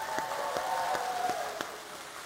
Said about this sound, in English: Let's give our Levine Children's Team a round of applause.